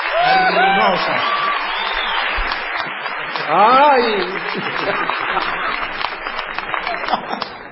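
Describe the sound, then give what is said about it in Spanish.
An audience claps steadily for several seconds for their secretary, a dense, continuous patter of many hands, while a voice briefly speaks and exclaims over it near the start and middle. “Hermosa se ha venido hoy nuestra secretaria. Un aplauso para ella.”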